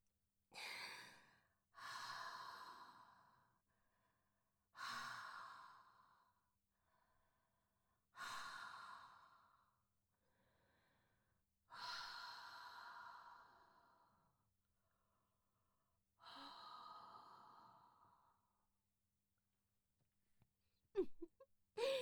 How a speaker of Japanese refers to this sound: さっきよりもちんちん嬉しそう。これいいんだ。あったかくてじっとりした吐息がまとわりついてきてやばい？